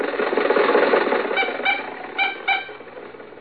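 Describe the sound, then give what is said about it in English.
The engine of Jack's car runs with a steady, noisy hum as they ride home from the races. Partway through come four short, squeaky, pitched chirps in two pairs before the rumble settles lower. No one speaks. “When the races were over, Jack, Dennis, and I were riding home in Jack's car.”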